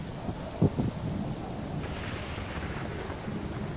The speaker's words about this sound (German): Es ist windig, ja. Es ist windig, es ist kalt, es regnet. Es donnert.